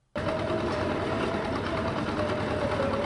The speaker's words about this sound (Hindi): ये तस्वीरें सिंघू बॉर्डर की हैं, जहां गर्मियों में पानी की किल्लत से निजात पाने के लिए किसान चंदा करके सबमर्सिबल पंप लगवा रहे हैं, जिसके लिए बकायदा मशीन से बोरिंग कराई जा रही है